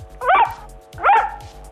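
A dog barks twice, about a second apart, each bark short, over a faint low thumping background.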